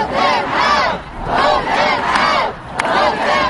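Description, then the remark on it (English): A large crowd at a March for Our Lives gun-law rally in Washington chants the slogan "Vote them out" at politicians in unison, loud and rhythmic, with repeated swelling shouts about every second, echoing across an open space amid constant crowd noise. “Vote them out, one of the many angry lines a crowd in Washington shouted at politicians.”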